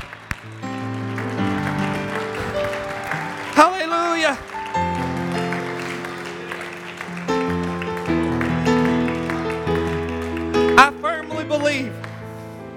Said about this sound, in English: Let's clap our hands to the Lord and begin to worship Him.